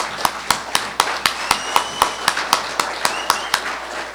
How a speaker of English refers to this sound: Let's give a hand of applause to our mothers.